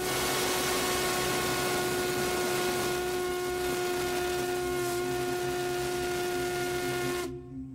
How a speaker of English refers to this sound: Now this is the Crosby whistle from the 1870s and 80s.